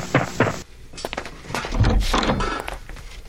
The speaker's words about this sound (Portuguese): Quando o Sr. Bilal, treinador da equipe dos jovens de Nguva, bate à porta.